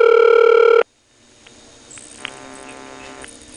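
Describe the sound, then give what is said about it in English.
A loud, buzzy telephone power ring on an intercept line blares for under a second and cuts off abruptly, followed by a faint line hiss with the low humming audible ringback tone and soft clicks in the background. “There's another case where you hear a power ring on Intercept, this time alongside the audible ringtone.”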